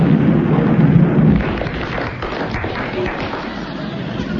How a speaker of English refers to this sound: Suddenly there is a tumultuous thunderclap.